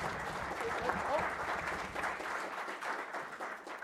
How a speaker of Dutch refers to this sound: Het was wel een mager applaus